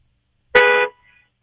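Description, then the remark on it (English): A single short car horn honk at a traffic light, recorded on a phone held out a car window, loud, lasting about a third of a second with a bright harmonic tone, followed by a faint echo-like tail and no talking. “Hold your phone out the window so we can hear honks.”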